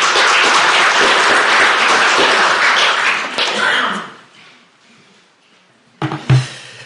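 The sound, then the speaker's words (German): Dense crowd applause for God, loud and sustained for about four seconds, then fading to a quiet lull before a brief burst of handling noise and a short thump near the end. “Das war jetzt ein Applaus für Gott, für seine großen Taten, die er getan hat und die er auch immer noch tut.”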